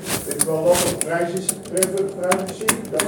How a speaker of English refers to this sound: We have a teletype machine that we use at the school at the moment. So it's kind of, it's also based on the tape with the five holes.